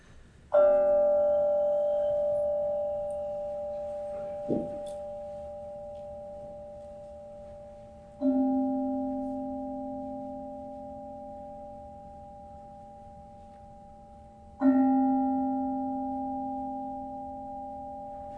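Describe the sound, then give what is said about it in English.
A meditation bell is struck three times, spaced several seconds apart, each strike blooming into a long, steady, resonant hum that lingers and overlaps the next. No one speaks. “So I'm going to invite Jake to take us in with the bell.”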